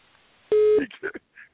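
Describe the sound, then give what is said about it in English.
A single loud electronic telephone keypad beep sounds for about a third of a second in response to a voicemail system prompt, followed right away by brief, muffled bursts of a voice speaking. “If you are satisfied with your message, press 1. To listen to your message, press 2.”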